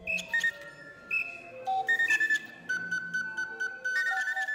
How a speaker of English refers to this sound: And so we put together a machine with about 60 of those, the best of the bird calls. I'm able to control it with a keyboard, and I can write memory onto a memory chip and play music that I write for this thing. I call it a bird call aviary.